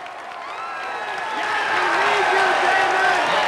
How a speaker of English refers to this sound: The man acknowledges the crowd and applauds along with them.